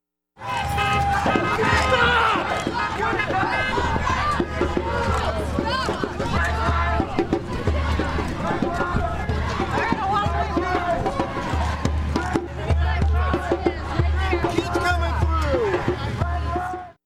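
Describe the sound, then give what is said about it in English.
A dense crowd of protest marchers murmurs and calls out, crowded together in the street in front of the Buskirk-Chumley Theater at the end of a march. Many overlapping voices form a steady hubbub, with a low rumble of traffic or movement underneath throughout. “As marchers crowded together in the street in front of the theater”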